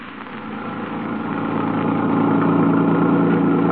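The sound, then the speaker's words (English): A car engine runs steadily as the car is driven away from a hospital, a continuous low hum with a droning tone that slowly builds in loudness over a few seconds. No voices. “Sorry, sir, but there seems to be a car stopped in the middle of the road up ahead.”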